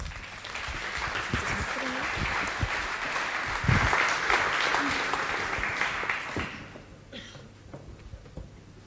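An audience claps steadily, welcoming a speaker to a talk on German network policy, in a dense, crackling wash of applause that holds strong for about six seconds, then thins out and fades to scattered claps.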